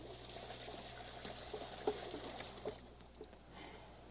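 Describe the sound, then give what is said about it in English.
Water pours steadily into a container, a continuous soft splashing and gurgling with a few small bumps and drips, fairly quiet and with no talking. “Water's heavy, you know. Yes, it is. I've been working with water a long time. It doesn't get any lighter. All right. Watch it. I don't want to splash you here.”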